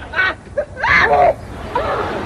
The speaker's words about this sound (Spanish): Bueno, es el grito de Mónica Seles, la tenista entonces yugoslava, Serbia hoy en día, que estaba número uno en el ranking mundial femenino, en la WTA